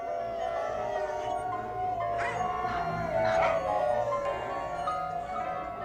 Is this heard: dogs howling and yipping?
yes